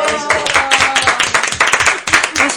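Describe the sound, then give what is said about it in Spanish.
A crowd applauds loudly and steadily for the piano and the accordion. Dense overlapping hand claps form a continuous roar for a few seconds, with a faint tonal hum beneath and no one speaking. “Bueno, pues vamos a dar un aplauso muy fuerte para el piano y para el acordeón.”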